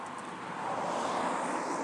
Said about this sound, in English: Oh, right, I'm in the middle of the road. I can hear a car coming behind me.